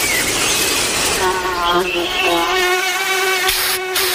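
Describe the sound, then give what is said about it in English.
A mosquito's thin, whining buzz hovers loud, holding steady for several seconds with a slightly wavering pitch, as if circling. “Don't worry, you have Off Clean Feel, fragrance-free mosquito repellent that feels good on skin, so even mosquitoes can't ruin those sweet feelings of summer.”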